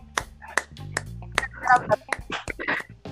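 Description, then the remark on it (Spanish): Sharp, spaced claps ring out at a steady, unhurried pace, about one every half second, while voices chatter and laugh underneath, giving it the feel of a small group applauding. “Creo que se merece un aplauso.”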